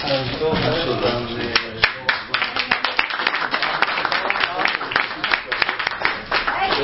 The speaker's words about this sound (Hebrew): לא, בואי תצטרפי. גם עושים במחיאות כפיים.